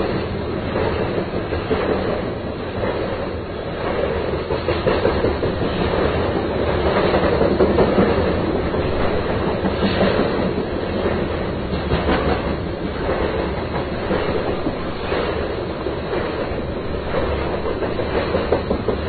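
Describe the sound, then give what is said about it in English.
A long freight train of well over 100 cars rumbles steadily past on railroad tracks at about 40 to 45 miles an hour, its heavy wheels clattering over the rails in a continuous, loud roar with faint rhythmic clicks, no voices present. “I mean, that train wasn't going particularly fast. It was going good, 40, 45 miles an hour, but I've seen it go faster.”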